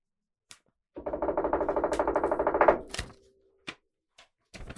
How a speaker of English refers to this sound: Get that right up to the mic so they can hear you unseal it. Oh, okay. Let's do this. Taking the tape off.